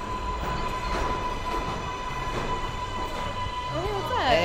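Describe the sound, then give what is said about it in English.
A steady, loud rumble of a subway car in motion at night, with faint murmuring voices underneath and a rising metallic wheel squeal breaking through near the end. “One night, they run into each other on the subway and have a moment of vague recognition and small talk.”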